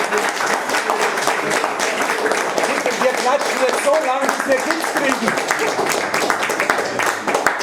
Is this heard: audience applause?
yes